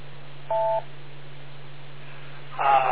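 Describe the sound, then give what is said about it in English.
A single short two-tone radio repeater beep sounds over a steady low hum and band-limited hiss, followed near the end by a louder burst of noisy transmission. “wait for the beep and you got it.”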